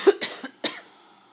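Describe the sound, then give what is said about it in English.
A short burst of close, harsh coughing: a quick cluster of two or three rough coughs, then a pause and one final cough, with no talking. “No, well, at this point now, I don't want to talk about your cough on air because we'll get in a legitimate argument.”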